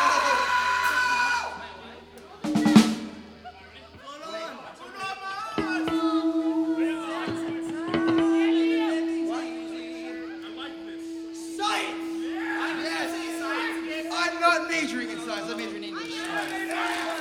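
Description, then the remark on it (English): A crowd cheers and whoops, many voices shouting over one another in bursts, with a steady sustained tone humming underneath for most of the stretch. “The crowd approves.”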